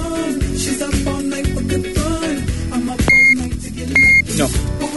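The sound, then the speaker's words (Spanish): A cordless phone base that is running out of battery gives two short, high electronic beeps about a second apart, clear and fairly loud over a dense, steady background. “Que se está quedando sin batería el... La base de esto.”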